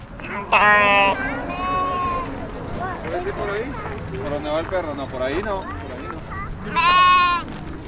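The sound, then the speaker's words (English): Loud bleats from sixty or seventy sheep and goats chomping on thin, dry grass inside a temporary fence come in short bursts, a few at the start and another near the end, with a person talking in between. “Sixty or 70 sheep and goats were chomping on the thin, dry grass inside a temporary fence.”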